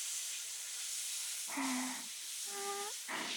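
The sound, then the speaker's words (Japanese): A steady, bright hiss of warm shower water spraying over someone before a shampoo runs throughout. About halfway in, a voice joins with three short, pitched syllables over the continuing spray. “シャワーっと、シャワシャワー。”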